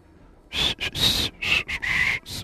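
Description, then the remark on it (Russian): Someone whistles a short song tune, a run of clear, shifting notes broken by brief pauses, fairly loud with a breathy edge and no talking, for a smartphone voice assistant to recognize the song. “Так, и что это я сейчас насвистел?”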